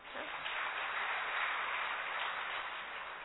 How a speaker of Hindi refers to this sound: ताली बजाएं।